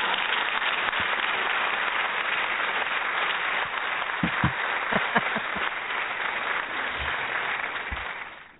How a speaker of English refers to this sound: Well, I appreciate the round of applause. Thousands are cheering. Yay! It's wonderful.